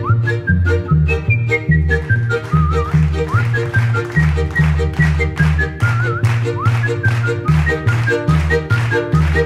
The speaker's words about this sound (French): Pendant 1h15, le public est invité à interagir avec …, comédien virtuose du sifflement. Avec enthousiasme, il partage sa passion artistique en sifflant des airs connus, créant ainsi une dynamique engageante.